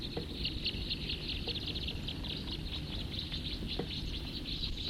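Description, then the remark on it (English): Many birds in a tree chirp and twitter at once, a dense, continuous chorus of high, quick calls overlapping with no pauses, over a steady low rumble of background noise. “There's really quite a few birds in this tree right here now.”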